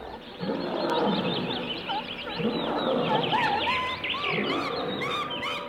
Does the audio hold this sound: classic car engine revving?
no